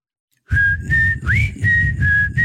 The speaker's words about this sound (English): What's the whistle part? Can you whistle it?